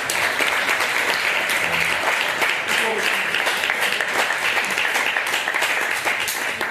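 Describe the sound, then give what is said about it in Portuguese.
Sustained applause from a crowd in a parliamentary chamber after a measure is approved with 27 votes in favor, many hands clapping in a dense, steady wash that stays loud for the whole stretch, with faint voices mixed underneath. “Aprovado. E foi, a medida foi aprovada. Palmas.”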